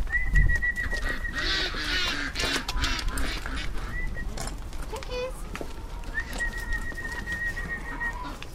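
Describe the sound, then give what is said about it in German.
Chickens cluck and squawk in a steady, busy stream of overlapping calls while being fed bread, with a faint murmur of voices in the background. “Die Hühner, die gerne Nudeln mit Soße essen,”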